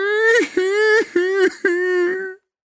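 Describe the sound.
A voice imitates the puppet Pinocchio crying and wailing loudly: four long, sustained, high-pitched wails with short sobbing breaks between them, each holding a steady pitch and ending abruptly.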